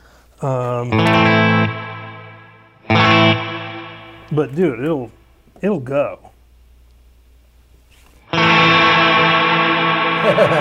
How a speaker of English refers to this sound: So what is the Supermoon? The Supermoon is a reverb that can get... Here's how I have it set right now.